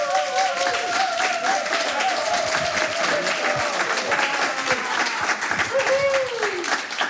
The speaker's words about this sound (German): Und dazu begrüße ich den Mitbegründer der Berlin Beer Week und passionierten Craft Beer Spezialisten. Herzlich willkommen, einen großen Applaus für